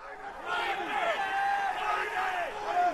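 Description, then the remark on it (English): A dense roar of many traders shouting numbers over one another in the oil futures trading pit at the New York Mercantile Exchange, with overlapping yells rising and falling in pitch, loud and continuous throughout. “That's the din at the pit at the New York Mercantile Exchange, where they trade oil futures, screaming numbers that determine all kinds of things in our reality: prices of fuel, cost of medicines, chemicals, foods.”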